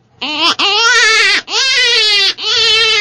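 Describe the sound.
A loud, wavering jackrabbit distress cry blown on an open-reed predator critter call, three long nasal wails in a row with short breaks, sounding like a baby crying, unaccompanied.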